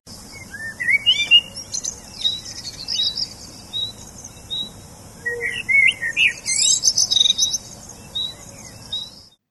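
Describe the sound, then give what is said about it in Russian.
Several birds sing and chirp continuously on meadows with many flowers, overlapping high warbles and short tweets, over a soft steady outdoor background hiss. “Там было много цветов, пели птицы, которые вальяжно гуляли на красивых лугах.”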